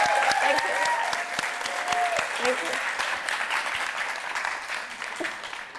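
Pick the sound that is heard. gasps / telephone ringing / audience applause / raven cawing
audience applause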